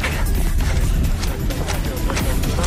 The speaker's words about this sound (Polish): Bo normalnie to my sobie biegamy, ale tutaj jest strasznie dużo dzisiaj śniegu, więc ciężko biega się, więc my tak sobie w miejscu.